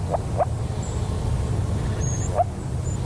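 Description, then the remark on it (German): Three short, soft rising calls of a moor frog, like muffled yelps or bubbles, two close together at the start and one later, over a low steady rumble with faint high bird-like whistles. “Machen wir direkt weiter mit dem nächsten Frosch, dem Moorfrosch.”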